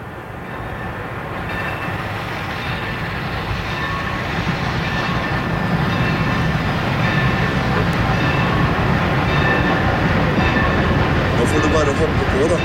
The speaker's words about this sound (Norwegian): Hei, her kommer toget allerede.